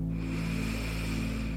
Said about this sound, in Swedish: Andas nu 3 andetag. Lite djupare och lyssna till hur det låter. Andas in.